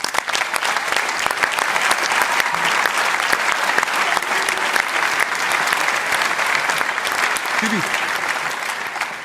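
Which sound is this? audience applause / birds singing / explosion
audience applause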